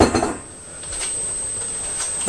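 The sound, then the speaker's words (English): A short burst of glassy clinking and clatter from a glass bottle of orange juice right at the start, fairly loud, then a steady low background hum with a faint high whine and no talking. “No, you can't hold it down. It's a glass bottle.”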